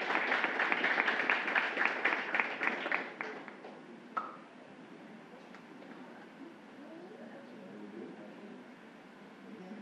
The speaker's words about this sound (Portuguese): Uma salva de palmas